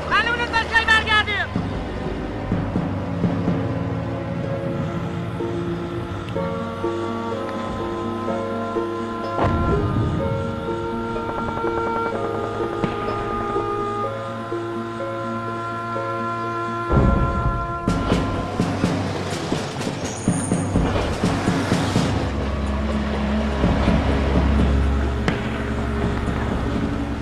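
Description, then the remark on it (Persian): A patrol boat engine drones steadily and fairly loud throughout, a layered rumble with humming tones, swelling with bursts of louder noise partway through. “قایق گشتیشون را دست بردار نیستم.”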